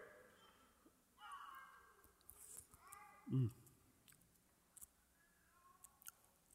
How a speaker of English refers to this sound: Now I got to chew. And my hands are sticky.